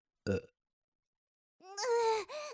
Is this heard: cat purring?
no